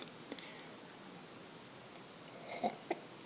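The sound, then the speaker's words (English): Someone sips coffee: a couple of short, soft slurping and swallowing sounds near the end, after a few faint clicks, all over a low steady hiss with no talking. “Oh, pardon me while I'm sipping the coffee.”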